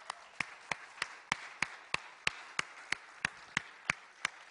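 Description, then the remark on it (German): An audience claps in a steady rhythm, sharp unison claps about three per second over a soft, continuous wash of scattered clapping and crowd noise, applauding the people under 20 who were asked to stand up. No one speaks. “Wir geben Ihnen einen Applaus.”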